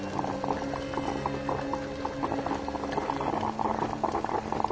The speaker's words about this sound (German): Was, du fauchst? Bestie. Willst du mir Angst machen? Bist doch eine gute Kaffeemaschine, nicht wahr?